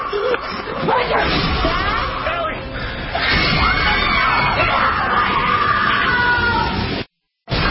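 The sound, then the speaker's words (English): Several people scream and yell in a loud, chaotic jumble from the trailer of the horror film Paranormal Activity 2, running almost nonstop, voices overlapping in panicked shrieks before a sudden brief cutout near the end. “You'll hear all those screams in there.”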